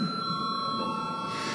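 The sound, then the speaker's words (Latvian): A steady electric call bell rings continuously in the Latvian parliament, the Saeima, calling deputies to a vote. It is a sustained metallic tone at moderate volume over a faint murmur, with no talking. “Deputāti, lūdzu balsojumu, lūdzu zvanu.”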